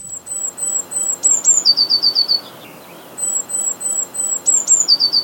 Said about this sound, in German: Und der Luftalarm einer Blaumeise, der klingt so.